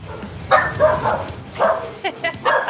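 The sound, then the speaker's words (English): Several dogs bark and yip in quick, uneven bursts, loud, with a short whine between barks, indoors in an apartment during Thanksgiving week. “That means I have 5 million dogs in my apartment while we record this today. So it's the sounds of the seasons, indeed.”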